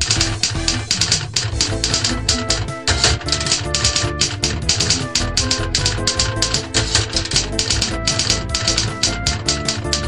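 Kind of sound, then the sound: machine, typewriter typing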